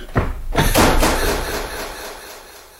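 door slamming shut

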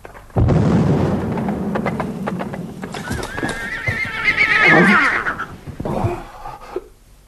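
horse neighing

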